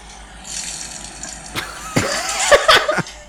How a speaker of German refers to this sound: Also ihr habt erstmal etwas Tropfen gehört und dann etwas Umfallen.